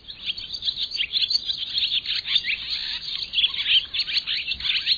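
Barn swallows twitter and chirp in a busy, continuous chatter of high, rapid notes, steady throughout, with no voices.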